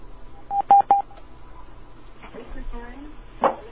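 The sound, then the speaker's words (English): Three quick, bright touch-tone beeps ring out in a rapid burst as a caller's line connects to a morning open-line radio call-in in Bristol Bay, followed by a soft murmur of a voice and a brief click over faint line hiss. “Let's answer some phone calls.”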